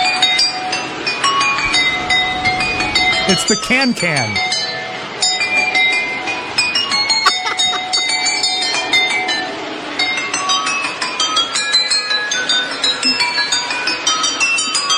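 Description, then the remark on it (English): Rapid, bright glass clinks ring out one after another in a running melody as a peg on a circling model train strikes glasses holding different amounts of water, with a faint mechanical rumble beneath and a brief voice speaking partway through. “with a lot of glasses of water that had different amounts of water in them, and then put a little peg on the side of his model train so when it went around the circle, it would hit the glasses of water and actually play a song.”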